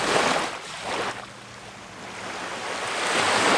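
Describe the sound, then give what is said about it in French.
Sea waves wash in and break, a broad rushing roar that swells, eases off briefly, then builds again, loud with no voices. “Et moi, c'est le son de la mer et des vagues.”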